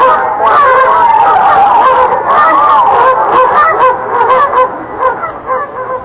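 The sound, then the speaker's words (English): A giant duck in a make-believe story honks and quacks loudly and almost without pause as it flies over Let's Pretend Land toward the story of Thumbelina, harsh nasal calls tumbling over one another, easing slightly toward the end. “Fly away, Duck.”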